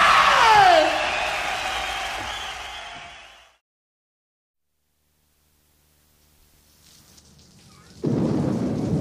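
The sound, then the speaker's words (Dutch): A loud, noisy whoosh with falling tones fades into silence, then a faint hiss builds and steady, fairly loud rain suddenly starts pouring near the end, at midnight among meadows on a cold night. “Het regent.”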